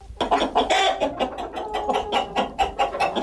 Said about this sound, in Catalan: És el renou que han de suportar els veïnats de la via Majòrica. Des de fa temps, el solar de l'antiga fàbrica de perles és ple de gallines i els veïnats es queixen del renou.